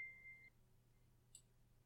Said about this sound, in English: Why is your phone going off during our quiet time? Why?